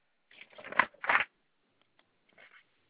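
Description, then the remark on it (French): Paper rustling in two quick bursts as sheets are shuffled and flipped while someone searches for an income tax notice, followed by a few faint taps and a last soft crinkle, with no one talking. “Donc, il faut que je trouve le papier, il est marqué impôt sur le revenu Voilà.”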